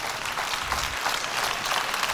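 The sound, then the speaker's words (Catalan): An audience in Sitges breaks into general applause as the festival proclamation speaker reaches the foot of the stage near the palm tree: a dense, steady wash of many hands clapping at an even loudness throughout, with no voices standing out. “Aplaudiments generals.”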